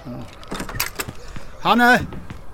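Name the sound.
door being opened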